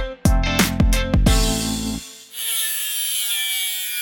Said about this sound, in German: Liebe Hörerinnen und liebe Hörer, das war eine Akkuflex, die sich an einem Kettenschloss die Zähne ausbeißt.